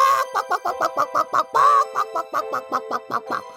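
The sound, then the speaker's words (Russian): A real chicken clucks in a rapid, steady series of short harmonic calls, loud, with one longer drawn-out squawk in the middle and no talking. “Настоящая курица на настоящем радио.”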